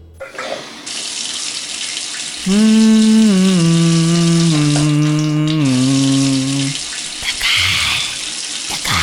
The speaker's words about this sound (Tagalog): Bawat minuto sa shower, 10 litro ang nagagamit. Bilisan mo ng maligo.